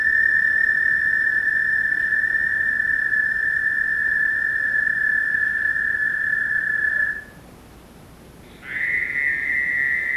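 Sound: frog call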